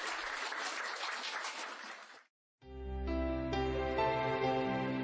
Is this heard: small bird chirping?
no